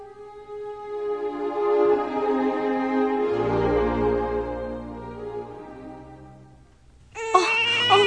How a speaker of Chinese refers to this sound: 宝宝快，宝宝别哭、啊、孩子的爸，你快来啊，我们的宝宝生病了。